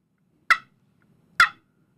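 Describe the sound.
Two sharp, short turkey hen clucks produced on a game call, spaced about a second apart, clear against near silence.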